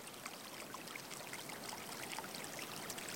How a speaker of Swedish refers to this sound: Och mycket riktigt, någonstans under marken hördes ljudet av porlande vatten. Han fortsatte: "Det måste finnas underjordiska källor här.